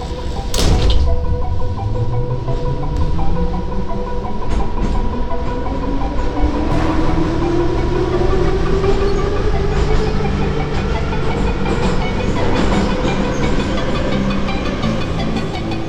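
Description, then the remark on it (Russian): A metro train car rumbles along at steady speed through a tunnel toward Krasnoselskaya, with a rising whine from the motors, rhythmic wheel clatter and a constant loud roar, heard from inside the car. “Я в метро отлюблено, до Красносельска перехожу с ветки на ветку.”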